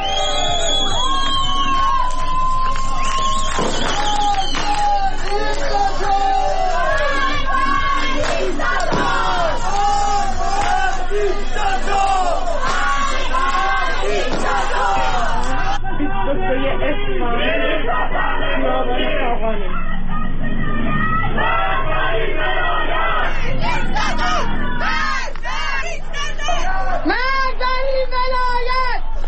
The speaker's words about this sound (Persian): بنابر گزارش‌ها شهروندان معترض از جمله مبادرت به راهپیمایی، سر دادن شعار و همینطور به آتش کشیدن تصاویری از خمینی و خامنه‌ای کردند.